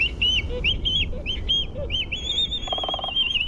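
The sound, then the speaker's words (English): Black-footed albatross calls: a run of short, nasal, honking notes, then a long drawn-out wail with a brief buzzy rattle underneath, all over a steady low rumble. “Black-footed albatrosses are masters of the high seas and soar through the air, but their fate is threatened by trouble on land.”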